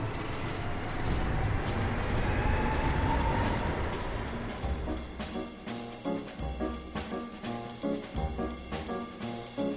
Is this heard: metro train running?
yes